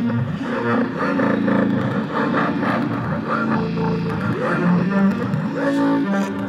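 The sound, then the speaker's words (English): A distorted electric guitar plays steady, chugging riffs through the Amplitube amp simulator app on an iPad, fed through an iRig interface, loud with a thick, buzzing tone that fills the whole clip without any voices. “This is Amplitube. So the guitar signal is from the molt.”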